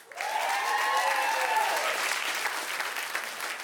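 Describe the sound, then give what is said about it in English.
An audience breaks into applause in answer to being asked who identifies as a feminist, a dense, steady wash of many hands clapping that starts abruptly and holds at an even level, with some cheering or whooping mixed in near the start. “Some of you clapped, and then some of you were like, ugh, we have to do it.”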